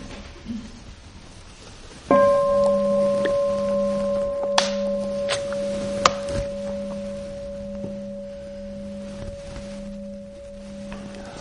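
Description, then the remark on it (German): A single bell strike rings out after a quiet start, its steady humming tones lingering and slowly fading for several seconds, with a few faint clicks along the way. “Ja, dann würde ich gern noch mal die Glocke hören, bevor wir dann zu dem Tüpfelchen auf dem i kommen.”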